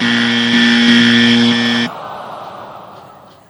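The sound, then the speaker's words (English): A loud, harsh wrong-answer buzzer blares steadily for almost two seconds, then cuts off abruptly, with a woman laughing at the end amid a softer wash of fading background noise. “I will continue to say that the worst thing about that wrong buzzer is the woman right at the end laughing.”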